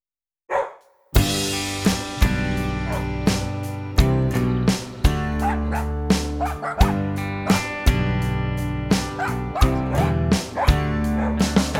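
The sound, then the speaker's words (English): Dogs bark and yip repeatedly over a steady, upbeat musical backing in a children's English-lesson song about different dogs in the park, the short sharp barks popping out at fairly regular intervals throughout, clear, with no talking. “Different dogs in the park.”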